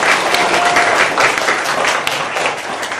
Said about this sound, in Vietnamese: Và các em thân mến, để mở đầu thời pháp thoại, sư muốn lắng nghe tiếng vỗ tay các em để chứng tỏ các em không có buồn ngủ nào.